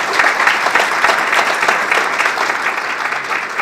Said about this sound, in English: So big round of applause for Kevin O'Loughlin.